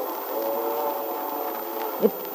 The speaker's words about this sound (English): It sounds like a train.